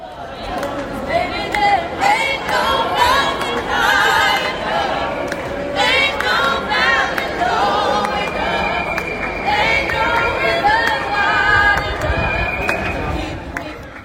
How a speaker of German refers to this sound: Ja, und die Trillerpfeifen, die man im Hintergrund hörte, das war keine Demonstration, okay. Sondern das waren 2 Pantomimen. Die haben die Leute in Empfang genommen, die Rolltreppe hochkamen.